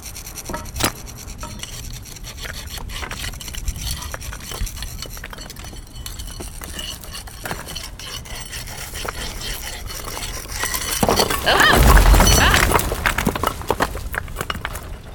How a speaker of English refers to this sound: Right. So if we just chip away at the cement around a few of them, knock out some of the bricks near the bottom, the pressure on the wall might be enough to do it.